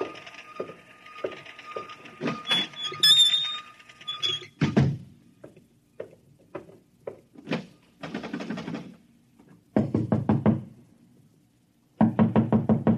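Someone pounds on a door marked private in loud, rapid bursts of knocks, with scattered single thumps and a few shorter volleys before the final heavy rounds. No one speaks.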